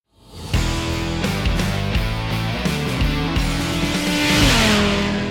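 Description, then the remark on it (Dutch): Motorcycle engines roar to life after a brief silence, idling loudly with a throaty rumble, then revving higher toward the end. No one speaks. “We starten alvast de motoren om aan de slag te gaan voor de volgende aflevering.”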